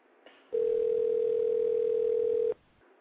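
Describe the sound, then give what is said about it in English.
A telephone dial tone after a call hung up: one steady, loud, mid-pitched hum holding unchanged for about two seconds, then cutting off abruptly, with only faint line hiss before and after and no voices. “The phone hung up, and then I tried to call back, but for my cell phone, and then you already know, it was so busy, I said, well, you know, they'll call me, or I'll just call them in a minute.”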